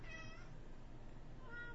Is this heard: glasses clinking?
no